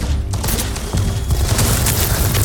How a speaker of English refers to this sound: Right now we're thumping for resources, which basically just means you lay down like this drill kind of machine and it just keeps hitting the ground and to grind up resources, and monsters keep coming out because they don't like that